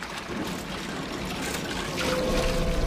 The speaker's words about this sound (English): On Big John's fishing boat, he pulls a lever attached to a machine. A pulley hoists a large fishing net out of the water.